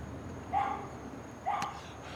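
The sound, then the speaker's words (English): A dog, named Lazarus, barks twice, about a second apart, each bark short and moderately loud, over a faint background hiss. “Dog came back to life.”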